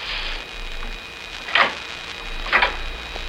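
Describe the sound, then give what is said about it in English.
Typewriter keys clack behind the door of number 24 in two sharp, crisp strikes about a second apart, with a fainter tap at the end, over a quiet steady hiss and a thin high whine. “Behind it, I can hear the click of typewriter keys.”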